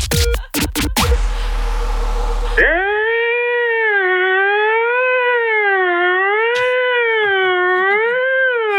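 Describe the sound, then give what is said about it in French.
After a burst of loud clattering noise, a burglar alarm siren wails continuously, its tone sweeping smoothly up and down in a steady, repeating rise and fall. “C'est l'alarme du lourd.”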